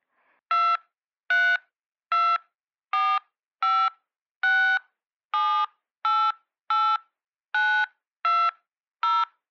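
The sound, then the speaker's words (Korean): Twelve short, clear keypad beeps from a phone, evenly spaced about a second apart, as a customer enters their mobile phone number and the star key one digit at a time into the SG Shopping automated customer service line. No voices, just the tones. “편리한 상담을 위해 고객님의 휴대폰 번호와 별표를 눌러주십시오.”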